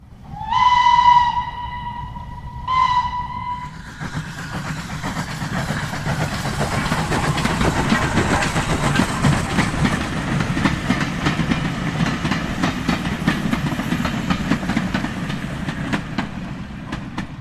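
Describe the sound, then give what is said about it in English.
A steam train gives two sharp whistle blasts, a long one then a short one, before settling into a steady, loud rhythmic chugging and rattling that continues without pause. No one speaks. “That was the sound of a steam train.”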